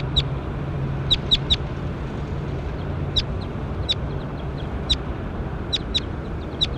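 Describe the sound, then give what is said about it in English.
A bird, bird 21, being recorded, calls repeatedly in short, sharp bursts, several quick chirps grouped together every second or so, clear over a steady low background hum with no one talking. “Pointed at bird 21.”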